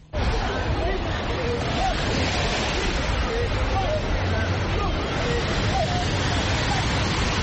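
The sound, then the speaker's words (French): A crowd of more than fifty people doing water aerobics in the sea, wearing vests and holding buoys, chatters and calls out over steady, rushing surf at Angor beach in Dakar, Senegal, on a Saturday morning, the babble of many voices blending with the continuous wash of waves. “À la plage d'Angor, samedi matin, ils sont plus d'une cinquantaine dans l'eau, munis d'un gilet et d'une bouée.”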